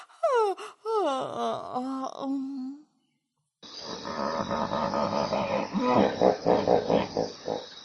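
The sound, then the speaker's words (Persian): A voice does a long, exaggerated imitation of a yawn in a sung verse about being a hippopotamus, sliding downward in wavering moans. After a short silence, busy, loud music begins. “انگار که خوابم بیاد، خمیازه می کشیدم، دهنم رو وا می کردم.”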